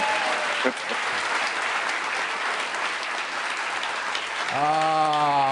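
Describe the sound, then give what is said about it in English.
Steady, dense audience applause fills the whole stretch, loud and even. A voice is briefly audible at the start, and a sustained, rising voiced tone joins over the clapping near the end. “Now you can applaud.”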